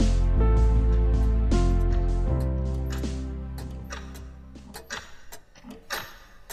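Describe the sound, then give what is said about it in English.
Numerous grandfather clocks lining the walls of a dark locked room tick at once in an overlapping, uneven clatter of sharp ticks, starting beneath a loud, sustained low drone that fades away, leaving the ticking alone. “breaks into a mysterious locked room where he finds numerous grandfather clocks lining the walls”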